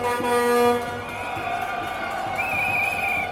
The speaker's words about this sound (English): And all the truck drivers here seem to be honking their horns in support of the union.